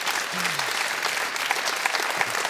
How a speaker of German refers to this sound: Das ist dein Applaus.